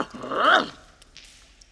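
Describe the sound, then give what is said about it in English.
A dog named Buster gives one loud whining bark that rises and falls in pitch, then fades into a few faint, scattered noises. “Good dog, Buster.”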